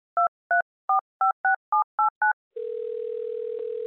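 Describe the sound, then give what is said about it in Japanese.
A rapid string of eight touch-tone keypad beeps, each a short two-pitch chirp, followed by a steady, continuous telephone dial tone humming on its own with no talking, as a radio show host places a phone call to a guest. “最初の方にお電話しましょう。”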